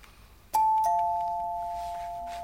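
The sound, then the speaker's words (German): A doorbell rings with two clear chime tones, a higher note followed by a slightly lower one, each sustaining and slowly fading over a quiet background. “Vera geht zur Tür.”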